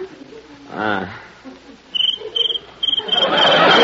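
cricket chirping

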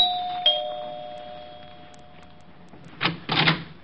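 apartment doorbell ringing

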